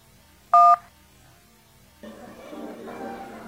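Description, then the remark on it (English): A single loud telephone keypad touch-tone beep, short and steady, as the 1 key is pressed to hear the next voicemail, followed by a brief pause before a person starts talking. “If you want to hear the next voicemail, please press the 1.”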